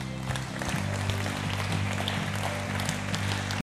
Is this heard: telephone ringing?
no